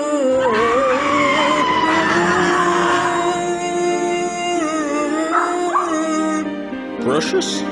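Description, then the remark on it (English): A small poodle yips and whines continuously, its high-pitched cries sliding up and down, with a few sharper yelps near the end. “Put the fucking poodle in the basket.”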